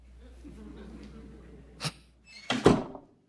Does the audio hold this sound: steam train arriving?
no